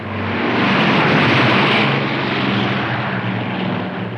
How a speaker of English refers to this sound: There goes the plane.